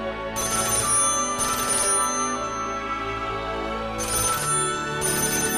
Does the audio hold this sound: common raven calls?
no